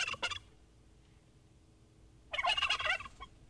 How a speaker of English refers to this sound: Is it a squeaky chair? No, it's a bird of some sort. It's a bird.